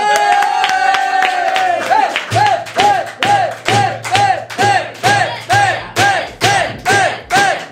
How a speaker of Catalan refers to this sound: Ah, va, rebem un fort aplaudiment a la Bet!